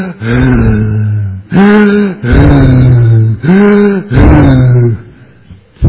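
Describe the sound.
A voice imitates the loud, laboured breathing of a man with a large sinus cancer tumour in his nose, meditating at a retreat in Sydney: four long, heavy rasping breaths with strong pitched voicing, forceful, each separated by a brief pause.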